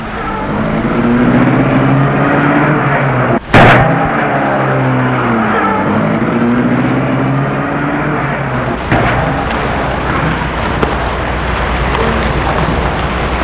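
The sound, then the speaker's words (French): A car engine starts after a sharp knock as the chauffeur starts the car, then revs with its pitch climbing and shifting as the car pulls away. A steady rain-like hiss runs throughout, with no talking. “Et il met la voiture en route.”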